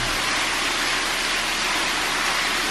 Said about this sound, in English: You see this water going there? And coming in. You just about see what's going on in there.